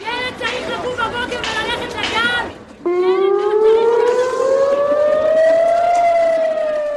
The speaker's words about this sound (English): That rally by families in Tel Aviv was disrupted by air raid sirens.